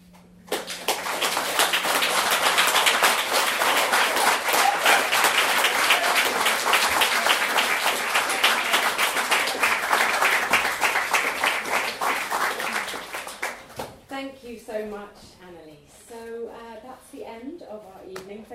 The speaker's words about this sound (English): Give another huge cheer for our authors. And also for our wonderful actors.